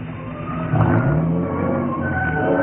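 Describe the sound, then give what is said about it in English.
A car engine runs steadily, rising briefly in pitch before settling into a low, even rumble as the car pulls into the side of the road by the edge of a cliff and slows to a standstill. No one speaks. “It was as the car came to a standstill that I suddenly remembered.”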